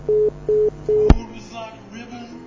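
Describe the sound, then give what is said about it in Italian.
Three short, even telephone tones beep in a steady rhythm as a call to a mobile phone connects, then a sharp click as the line picks up, followed by faint, muffled talking over the phone line. “ha già chiamato sul cellulare.”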